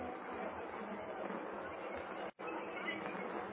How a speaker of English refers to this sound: Pray, I'm throwing the switch. There's the murmur of the crowd. Yes.